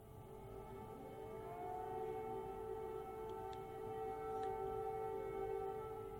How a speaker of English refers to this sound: Sirens have sounded throughout Kyiv as Russia has launched fresh airstrikes on the Ukrainian capital.